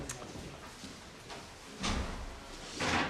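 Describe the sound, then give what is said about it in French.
Chairs being moved into a room: a few soft knocks, then two louder scraping drags of furniture across the floor, with no one talking. “On va rajouter des chaises par là.”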